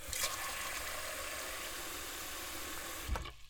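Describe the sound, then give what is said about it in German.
Water runs steadily from a tap into a pot as potatoes are washed and the pot is filled with water to cook them, a constant rushing hiss that cuts off near the end with a short knock, no voices present. “wir waschen die Kartoffeln und dann kommen die in einen Topf voller Wasser.”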